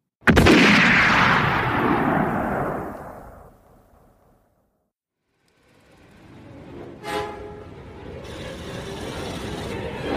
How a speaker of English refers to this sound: The first shot rings out, sounding like a backfire, misses the car completely.